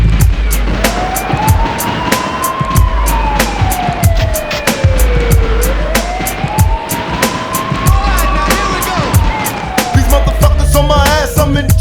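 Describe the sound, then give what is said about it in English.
A police car siren wails in slow rising and falling sweeps, two long cycles, sounding loud and steady over a thumping bass-heavy beat. “Is it a bust? I hear the sirens, run for cover.”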